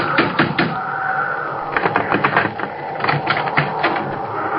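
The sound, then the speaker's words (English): Loud pounding on the wooden door of a house during a snowstorm: rapid, irregular bursts of heavy thuds that keep going for several seconds, with no voices, over a steady rushing background noise. “I ran toward the house and stumbled up the path to the door. Let me in! Let me in!”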